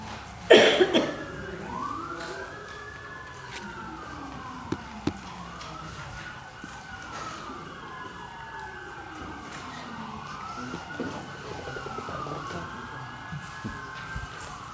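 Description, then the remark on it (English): Emergency vehicle sirens wail in repeated rising and falling sweeps, steady and moderately loud, as they pass by outside with some traffic rumble beneath. “I'll let the sirens go by.”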